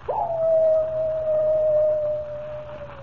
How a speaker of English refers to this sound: Does the howl of the coyote really spell death for Comanche Joe?